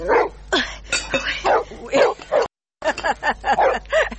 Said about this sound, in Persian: ایسا اگه پالوی خیمه ما چرا غوغو میکنم؟ این سگان به نظر ما به خدا بسیار خطرناک معلوم میشه